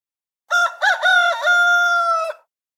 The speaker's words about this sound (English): One evening, as they were putting the finishing touches on the ark, the raft, our rooster flapped up onto a fence post, threw back its head, and let loose a cockadoodle at the sun.